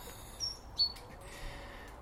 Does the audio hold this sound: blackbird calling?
yes